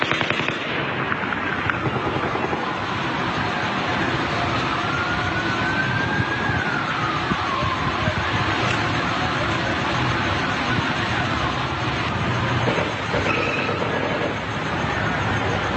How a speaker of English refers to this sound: So that's clearly what you're hearing. There's seven shots fired, and then the exact seven shots, the exact sound of the report echoes back. So I just want to clarify that these are shots fired, and then the echo. It's very clear.